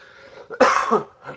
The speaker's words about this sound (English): Apologies. Trying to get over a cold, and I've still got a bit of a cough.